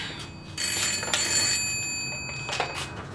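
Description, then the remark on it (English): A telephone, put in for someone in the 1990s, rings its bell in a bright, rattling trill for a couple of seconds, then fades out, with faint background hiss and no voices. “They put a phone in for you.”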